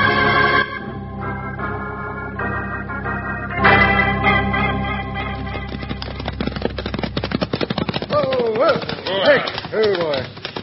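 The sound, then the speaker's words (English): Horse hooves clatter in a quick, steady galloping rhythm over dramatic background music, growing busier in the second half as excited voices break in near the end. “Get off your horse.”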